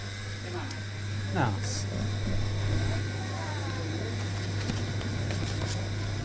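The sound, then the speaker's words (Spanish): The motor of an old refrigerator in a neighbourhood grocery store gives a steady, loud, low-pitched hum without a break, with faint background voices and small clatters. “Che, qué ruido que hace esta heladera, ¿eh? Viejita la pobre.”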